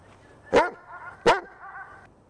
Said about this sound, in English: Ah, my boss's dog, Brian.